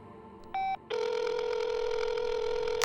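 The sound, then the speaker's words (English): A telephone rings: a short electronic beep, then a steady, sustained buzzing tone that holds at an even loudness for about two seconds, with no voices. “Why are you calling me, Sinus?”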